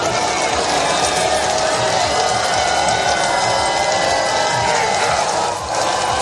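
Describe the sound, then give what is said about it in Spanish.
A large crowd of thousands cheers and shouts "God save the King" as King Charles and Camilla pass along The Mall in London toward Buckingham Palace under a leaden, rainy sky, a dense, steady roar of many voices with no break, loud throughout and dipping only briefly near the end. “Entre gritos de God save the King, Dios salve al rey, Carlos y Camila, que, como te digo, recorren ahora mismo ese tramo.”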